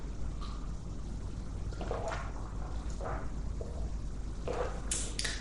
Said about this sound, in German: Ich muss zwischendurch auch wieder einen Schluck Wasser nehmen.